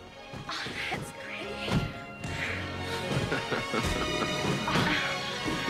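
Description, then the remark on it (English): Fireworks burst in the night sky above a scoreboard following a home run animation, a rapid, irregular series of loud booms and cracks, with a steady crackling hiss filling the gaps between explosions. “A home run animation is followed by magnificent fireworks in the sky above it.”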